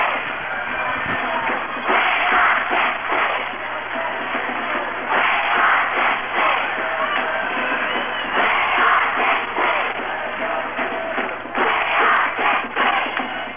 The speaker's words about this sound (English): You can hear the cheering. Hurricane High School gym. We're right in front of the Dixie High Flyers.